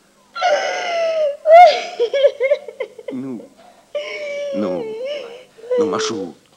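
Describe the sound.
A woman cries and sobs, her voice rising in long, wavering wails broken by shaky catches of breath, fairly loud throughout with a brief pause midway.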